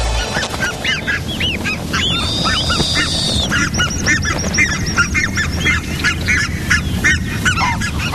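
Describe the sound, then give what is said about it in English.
Loud, agitated geese honk repeatedly as they chase owls that threaten their goslings, a dense overlapping chorus of harsh calls over a rustling, wing-flapping commotion, with a sharp squawk rising above the flock. “Realizing the danger, the geese now give chase to the owls.”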